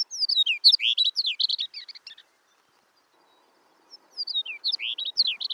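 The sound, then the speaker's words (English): A longspur sings two bright, rapid warbling phrases of high, tumbling notes, separated by a brief pause, clear with no other sounds or voices. “However, if cows are managed properly, they may be able to help longspurs persist.”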